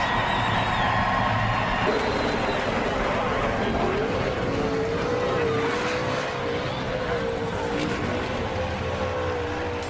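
Loud race car engines roar and rev, their pitch climbing and wavering over a steady, dense rumble that fills the whole stretch without letting up.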